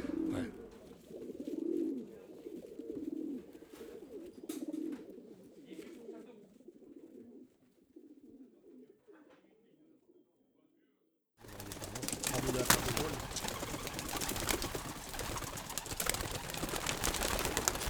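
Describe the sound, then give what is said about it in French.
Pigeons coo in low, rolling murmurs for about ten seconds, steady, before a sudden loud, hissing rush of noise cuts in and fills the rest. “Ils pensaient à leur plaisir, à leurs pigeons.”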